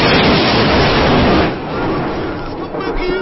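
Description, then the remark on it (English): A lightning strike hits with a loud, harsh crackling roar that holds for over a second, then eases into a slightly quieter, rumbling wash of noise that keeps going. “Here comes the lightning strike.”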